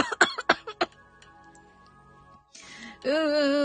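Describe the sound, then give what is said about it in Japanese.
A rapid burst of six or so harsh coughs in a fit, then a quiet stretch with a faint hum, followed by a breathy rush and a sustained voiced sound. “それでは、咳込んで大丈夫と、そうそうそう、ちょっとね、ガラっちゃって大丈夫だったでしょうか、皆さん。”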